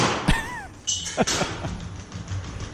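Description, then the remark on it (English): Robot dog footsteps: a handful of sharp, irregular clacking thumps on a hard surface, with a brief whining mechanical chirp near the start and a low hum underneath. “Those are the footsteps of the robot dog.”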